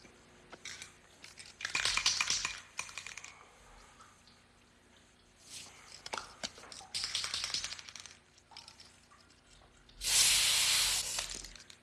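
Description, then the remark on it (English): Aerosol spray paint hisses in several short bursts with rattly handling noises between them, ending in one longer, louder steady spray, as a spray-on hair product is applied to someone's head. Fairly loud, with no talking. “You're supposed to spray in a circular motion.”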